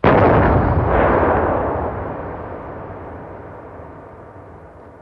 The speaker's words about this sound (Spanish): Pero si le dicen Big Bang, debe ser porque tal vez habrá sonado como el inmenso disparo de un cañón supergaláctico.